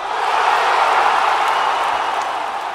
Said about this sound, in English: In the end, Chelsea and Real didn't sell out Sun Life Stadium, but it was close, a fact that was loud and clear as soon as Madrid scored the first goal of the match.